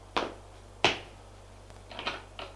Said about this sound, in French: Ils entendent des pas.